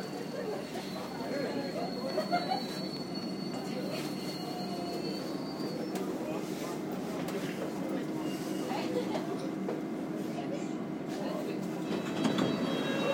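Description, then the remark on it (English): Steady rumble of a newer underground train carriage with a thin high squeal from the rails, while an onboard announcement voiced by a woman and a man plays over the clatter throughout. “So I thought I'd record the announcement because it's different. They have a woman and a man doing it.”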